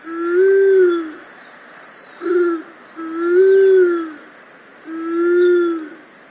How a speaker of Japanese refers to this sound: この日は近くにもう1羽別のカラスバトがいて、互いに鳴き交わし、ゲレゲレと鳴きながら飛び回っていました。ゲレゲレ声には威嚇の意味合いもあるようですから、縄張り争いの真っ最中だったのかもしれません。